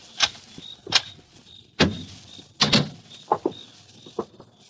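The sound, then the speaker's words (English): A door is unlocked and opened: several sharp clicks and clunks of a lock and latch, spaced irregularly, followed by softer rattling handling sounds, with no voices. “Now open the door, Ruth, quickly.”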